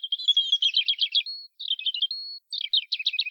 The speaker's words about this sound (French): Sur la branche la plus élevée, un rouge-gorge gazouillait.